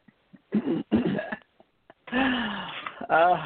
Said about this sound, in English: turn up the volume really loud, we hear him snoring. There he is.